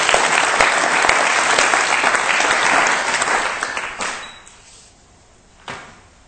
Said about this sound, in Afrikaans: Nou maar goed, wie het iets geleer vanaand? Geef vir die Here 'n groot hande klap.